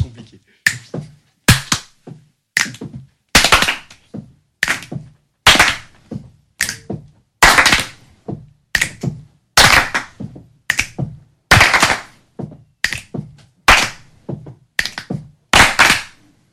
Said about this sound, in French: on va se quitter comme ça sur la petite présentation que tu nous as faite tout à l'heure de la musique corporelle.